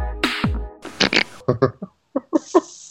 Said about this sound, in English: Did somebody just make a fart noise? I heard it too.